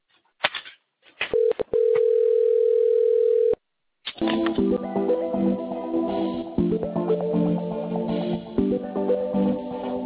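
A telephone line sound as an automated social survey service line transfers the caller to a phone advisor: a few short clicks, then a steady single-pitched tone held for about two seconds, a brief silence, and then a busy, tonal hold-music-like texture while the call connects.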